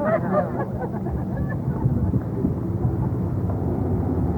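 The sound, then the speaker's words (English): A steady, loud low rumble of heavy traffic, including a passing bus, rolls past, engines droning continuously without a break for several seconds, with no voices. “This is like the LA freeway.”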